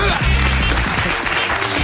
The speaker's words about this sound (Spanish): ¡Un aplauso!